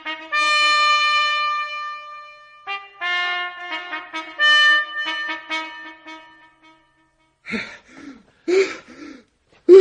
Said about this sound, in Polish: No, co pan tak dyszy?